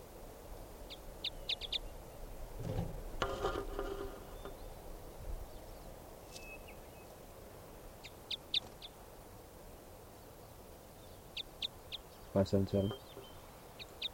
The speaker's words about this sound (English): So 577 was the loud bird there.